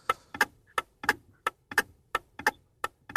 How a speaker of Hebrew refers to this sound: אנחנו עושים עכשיו פה שעון מתקתק שיזרז אותך לענות על כמה שיותר שאלות.